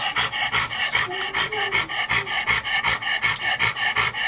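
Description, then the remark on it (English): An 11-year-old Labrador, Maisie, pants rapidly and steadily through an open mouth with stridor, each breath carrying a harsh, raspy noisy edge, with no talking, the rhythmic bursts continuing throughout. “And Maisie, sorry, Maisie, this was another Labrador. She was like 11 years old. And again, the stridors and the panting, open mouth breathing.”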